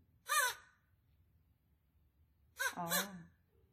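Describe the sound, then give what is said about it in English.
A black Australian crow caws twice in Australia, a short harsh call followed a couple of seconds later by a longer, drawn-out wavering one, against a faint low background rumble. “Oh, you laughed at the Australian crows for being black”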